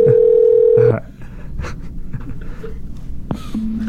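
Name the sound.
telephone call being placed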